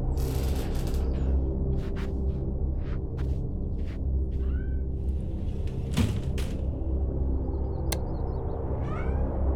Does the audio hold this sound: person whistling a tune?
no